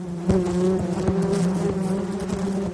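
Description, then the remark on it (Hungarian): A dense, steady drone of many honeybees buzzing around a hive, continuous, with overlapping wingbeats and no voices. “Egyetlen kaptárban akár 50-60 ezer méh is élhet egyszerre.”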